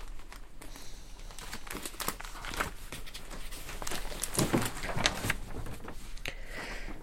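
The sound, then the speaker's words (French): Dry crinkling of a small piece of paper, with irregular bursts of sharp rustles and crackles over several seconds, fairly quiet and unaccompanied by speech. “Et important ce petit bout de papier, hein.”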